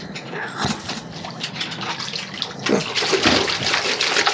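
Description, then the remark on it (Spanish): Water splashes and churns continuously, with a heavier surge of splashing about two-thirds through, fairly loud, as a man drops from a ship's anchor into the sea at night near a dock, dives in and swims underwater. No voices. “Desprendiéndose del ancla con el menor ruido posible para no llamar la atención de los tripulantes, Calimán se arroja al mar. Se zambulle inmediatamente y nada por debajo del agua en un buceo bien orientado.”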